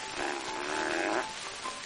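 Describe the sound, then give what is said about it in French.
A voice imitates a strained, drawn-out fart of a constipated person: a buzzing, tight rasp held for about a second, then a few weak sputtering bursts trailing off, fairly loud with no talk. “Fait d'une personne constipée.”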